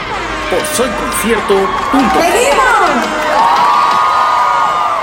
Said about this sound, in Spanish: ¡Y que griten una bulla!